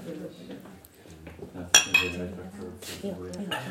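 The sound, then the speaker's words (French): Glasses clink together in a toast, one sharp ringing clink quickly followed by a softer second, over people talking quietly. “Vous avez surestimé Katz. Trinquons.”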